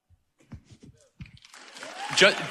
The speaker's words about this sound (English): Just so we understand, you're applauding like a biological textbook definition.